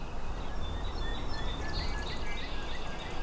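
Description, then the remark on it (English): Outdoor ambience at Great Sipowicet Marsh on Cape Cod with a steady wash of background noise and faint calls and chirps from several birds, including red-winged blackbirds, cardinals, chickadees, song sparrows and ducks, layered throughout. No one speaks. “This week it's got red-winged blackbirds, cardinals, chickadees, song sparrows, ducks, probably some other birds in there as well.”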